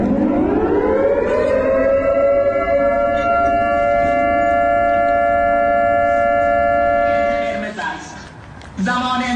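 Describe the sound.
A civil defense siren, sounded as a protest alarm in Shahin Shahr, Isfahan, rises and holds a loud, steady wail with strong harmonics for several seconds, then falters near the end as muffled voices and commotion break in.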